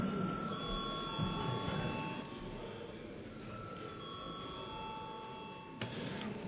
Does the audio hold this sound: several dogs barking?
no